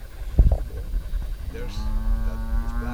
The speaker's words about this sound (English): Down the dirt road that runs in front of the Durans' five-acre property is a wide-open field with a yellow and black sign marked No Trespassing nailed to a tree. It's here where a herd of cows stroll into view.